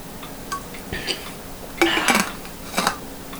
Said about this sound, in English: And that was not me talking about girls. That was me taking a giant swig of water.